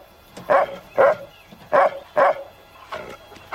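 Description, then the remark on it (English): A large mongrel dog, Mac, barks several times in a loose rhythm, four strong barks followed by a couple of softer ones, with no voices around it. “A large mongrel dog lies beside him.”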